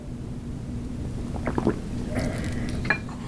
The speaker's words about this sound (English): Pardon me, I'm going to have a little sip of tea.